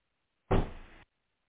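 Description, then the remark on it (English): A door closes once: a sudden, fairly loud thump followed by a short rushing decay that cuts off abruptly. No one speaks, and silence surrounds it. “Let me close my door.”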